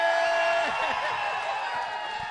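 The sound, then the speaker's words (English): A loud crowd at the Commerce Casino roars with applause, cheers and screams in answer to a question about wanting to see Gina Grad take her top off, a dense, steady wall of noise filling the whole short moment, with individual voices rising and falling within it. “How many people out here right now at the Commerce Casino, by sound of radical applause and screaming at the top of your lungs, would like to see Gina Grad take her top off?”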